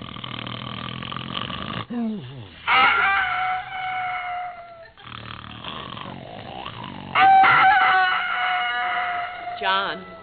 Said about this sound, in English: What's the matter? The rooster is crowing. Well, turn it off.